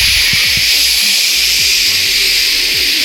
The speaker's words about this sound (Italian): Ora usiamo i nostri phon per fare una grande sfilata. Accendiamoli tutti insieme. 3, 2, 1, vai.